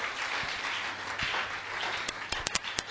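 A crowd claps its hands in a dense, steady wash of applause, which breaks near the end into a handful of sharp, separate claps.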